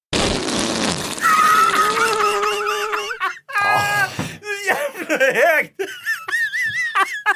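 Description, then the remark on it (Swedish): A rough, raspy burst of fart noise from a whoopee cushion placed on a chair, lasting about a second, quickly followed by several seconds of loud, high-pitched giggling and laughter from more than one person. “Jag la en pruttkudde på stolen, ja.”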